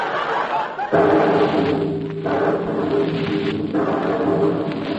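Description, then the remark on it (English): A sudden loud boom bursts in about a second in as a cannon fires in the kitchen, followed by a heavy rumbling roar that carries on to the end with faint murmuring mixed in. “A cannon, madam.”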